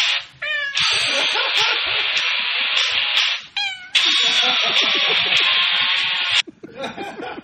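A cat lets out two long, loud, drawn-out meows, each lasting a few seconds, with short chirping cries before and between them.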